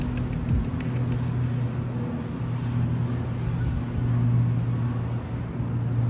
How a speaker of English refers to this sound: Wait, airplane? Airplane's making the noise, this one. It's gonna land there, like there's an airport there.